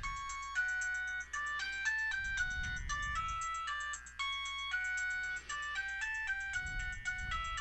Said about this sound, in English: this phone, the phone went off